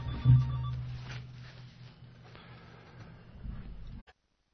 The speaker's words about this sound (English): We have a phone call.